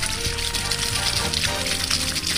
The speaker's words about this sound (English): I water the flowers.